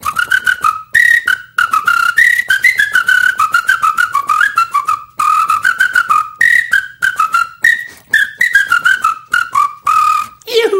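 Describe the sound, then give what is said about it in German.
A lively Irish folk tune whistled solo, a quick melody of short, bouncing notes running continuously for about ten seconds with brief breaths between phrases. “Nein, also nachpfeifen, das überlasse ich all denen, die das nicht richtig kennen mit dem Pfeifen. Also lieber so richtige irische Volksmusik.”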